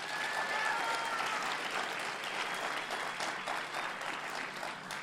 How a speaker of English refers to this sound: But thank you. That's my time. Let's give them all one more round of applause.